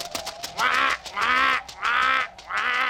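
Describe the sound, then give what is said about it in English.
A duck quacks four times in a steady, evenly spaced rhythm, each call a loud, nasal, drawn-out honk, with no talking. “Excuse me, Miss Duck.”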